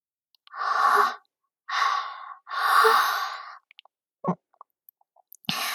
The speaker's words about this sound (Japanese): 大きなあくび。食後は眠くなりますよね。